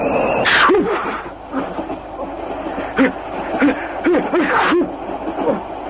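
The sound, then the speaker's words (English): A man sneezes again and again in a loud bout, the sharp bursts coming in quick succession with strained breaths and gasps between them. “Most impressive display of sneezing I've witnessed in years”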